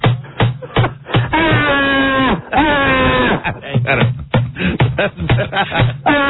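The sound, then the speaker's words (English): A person lets out two long, drawn-out wailing cries, loud, wavering in pitch like anguished moans, with choppy talking before and after. “The people that are getting that treatment should really scream out in agony.”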